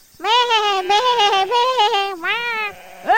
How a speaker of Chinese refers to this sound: 喵，有翻译的没翻译，什么意思啦？ 我哪知道，他们就真的在咩咩咩，你自己问他们啦。